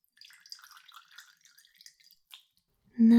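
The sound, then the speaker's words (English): Scattered small drips and trickles of warm water patter for a couple of seconds while a face is washed, then a louder rush of running water starts abruptly at the end. “As much as we don't like water, we will wash over your face.”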